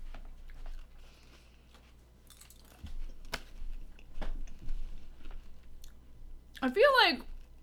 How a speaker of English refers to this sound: If you give me a mind trap, I'll ask you one while you're chewing up your celery.